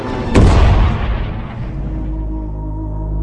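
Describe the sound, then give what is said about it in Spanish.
The bow guns of the warship Hood fire a final salvo as the ship sinks after an explosion split its stern: one loud booming blast followed by a long, deep rumble that slowly fades. No voices are heard. “Mientras el Hood se hunde, la artillería de proa dispara la salva final.”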